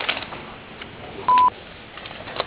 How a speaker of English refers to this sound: If you would like to leave a message, please do so after the beep, and we will return your call as soon as we can.